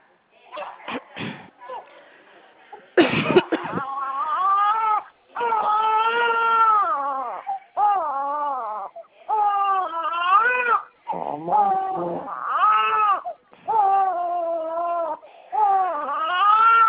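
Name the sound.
baby crying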